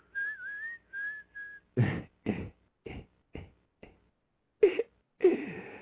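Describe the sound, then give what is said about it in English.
A person whistles a short song tune in three quick, clear phrases, followed by a run of sharp, breathy percussive bursts with no speech. “That's what the fuck I'm whistling.”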